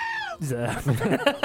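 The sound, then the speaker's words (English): A goat bleat rings out as a contestant buzzer sound on a show, a wavering, nasal cry with stacked harmonics that quivers and breaks into shorter bleating pulses over about a second and a half. “Telling one goat from the other. We found out about each other's buzzers about 10 minutes before the show.”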